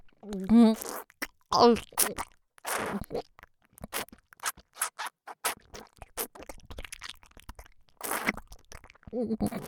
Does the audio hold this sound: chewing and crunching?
yes